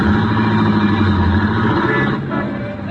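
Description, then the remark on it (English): Steady, loud city traffic in a traffic jam on Broadway near 42nd Street, with a car engine rumbling and revving, its low drone continuous throughout and easing slightly toward the end. “Up Broadway, into traffic jams, across 42nd Street, into the heart of Theaterland.”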